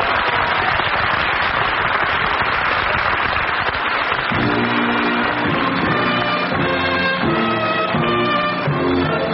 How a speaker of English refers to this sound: That's it. Definitely. Round of applause.